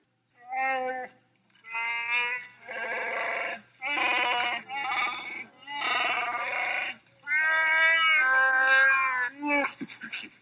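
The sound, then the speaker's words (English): Chewbacca's Wookiee roar: a string of about six loud, warbling, bleating howls with a rough growling edge, separated by brief pauses, rising and wavering in pitch with no talking. “15. Chewbacca's roar.”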